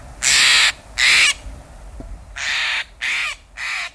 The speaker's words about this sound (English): This is Bird Note. Do you recognize the loud, demanding call of the Steller's Jay? Often in small family groups, these birds swoop out of a conifer, scattering the smaller birds at the feeder.